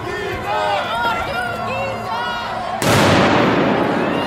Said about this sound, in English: Another firework.